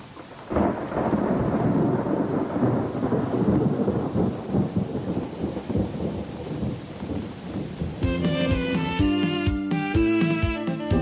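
A loud thunderstorm with heavy rain and rolling thunder rumbles steadily for several seconds, then a melodic instrumental tune comes in over the fading storm.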